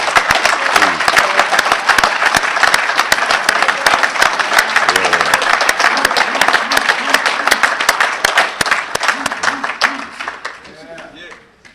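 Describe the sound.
Sustained audience applause, another round given for a speaker's message at a workshop, a dense crackle of many hands clapping at once, loud and steady for about ten seconds before tapering off, with faint voices mixed underneath.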